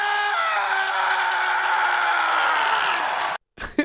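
Hockey player Alex Ovechkin lets out a loud, guttural celebratory yell on the ice in Las Vegas after hoisting the Stanley Cup, held steadily for over three seconds with a slight downward sag in pitch before cutting off abruptly, followed by a brief burst of noise.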